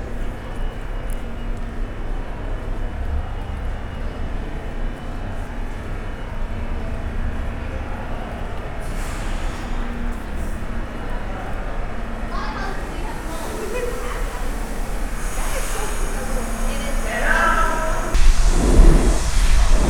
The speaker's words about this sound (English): Brooklyn-bound express train on the other platform across the way.